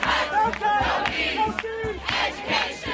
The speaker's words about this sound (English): Students from the University of California at Berkeley protesting a recent decision by the governing board to raise tuition by 32%.